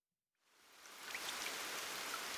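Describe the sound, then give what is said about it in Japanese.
After a moment of silence, rain begins to fall and quickly builds into a steady, soft hiss with scattered droplet patter, continuing evenly at a fairly quiet level with no voices. “あら、雨が降ってきたようです。”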